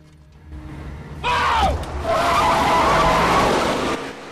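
A pickup truck swerves hard to avoid a horse box left in the road, tires squealing in a sharp falling screech, then a long loud rush of skidding and rumbling noise as it slides off the road before cutting off abruptly.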